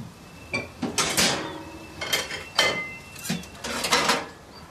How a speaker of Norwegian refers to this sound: Hun vier han ingen merksemd og starter rutinemessig på oppvasken.